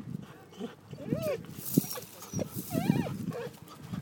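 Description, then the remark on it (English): A guide dog barks and yelps excitedly in several short, high-pitched bursts spread across a few seconds, moderately loud over a low background rumble. “What a major dog.”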